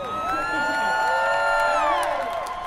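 A crowd at the Boston Marathon finish line cheers loudly and steadily, with overlapping shouts and high whoops blending into one sustained roar that holds at full volume for the whole few seconds.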